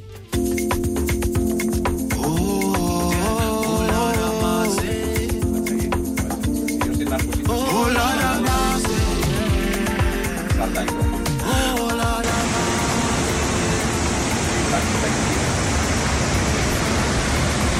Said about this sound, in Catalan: Això és un salt d'aigua. Això és un salt d'aigua, però, Roger, no és només un salt d'aigua. És una de les coses més brutals que he sentit en els últims temps, perquè aquest salt d'aigua el van descobrir el 2020.